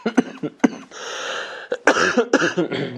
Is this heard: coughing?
yes